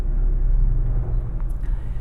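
A helicopter flies low overhead, beside a tree, its loud, steady rumble thick with deep droning engine tones that fill the whole clip, with no voices heard.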